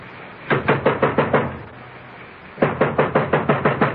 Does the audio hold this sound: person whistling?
no